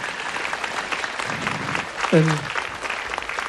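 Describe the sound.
An audience applauds steadily for several young women, dense clapping for a few seconds, with a brief voice cutting through near the end.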